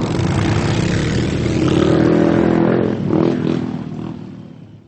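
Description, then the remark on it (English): A big monster truck engine roars and revs, a deep throaty rumble that swells in the middle, then gradually tapers off as it pulls away, with no voices. “Catch me if you can! Vroom!”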